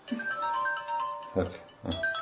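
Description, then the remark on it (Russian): A mobile phone rings during a lecture with a steady electronic melody of sustained mid-pitched tones, interrupted by two short, thumping bursts of noise near the end. “Так, буду отвечать только на нужные звонки.”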